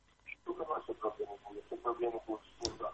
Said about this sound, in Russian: Сделайте потише радиоприемник, вы слышите нас в телефоне.